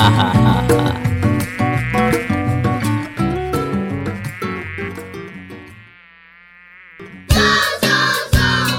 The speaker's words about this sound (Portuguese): Um mosquito. Com nome feio e esquisito. Com menos de um centímetro, ele consegue ameaçar um país tão grande como o Brasil.